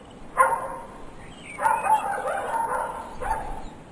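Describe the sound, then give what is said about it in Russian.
A dog, startled awake by breaking window glass, jumps up with ears pricked and growls threateningly in three bursts: a short snarl, a longer rumbling growl, then a brief final one, with no one speaking. “тут же стряхнул сон, вскочил и навострил уши, и начал угрожающе рычать, еще не понимая, что произошло, но ко всему был готовый.”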